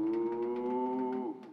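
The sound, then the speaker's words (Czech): A person in an Adidas tracksuit, crouching under an old juniper in a garden below a window, imitates a cow with one long, steady moo lasting just over a second, holding a voiced tone before trailing off at the end. “To nebude kráva, to zní jako člověk imitující krávu.”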